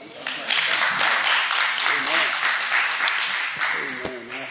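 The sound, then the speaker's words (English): A church audience claps steadily for several seconds to welcome a visiting pastor introduced to preach, a dense, continuous patter of many hands at even loudness, with a few voices faintly audible underneath. “I trust that hand clap was for the Lord.”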